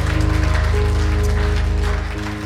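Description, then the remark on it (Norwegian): An audience at Karismakirken applauds as thanks to Jesus in a dense, steady wash of clapping, loud throughout, with sustained musical tones humming underneath and no one speaking. “Skal vi ikke gi Jesus en virkelig takk ifra våre hjerter og uttrykke det en applaus til ham?”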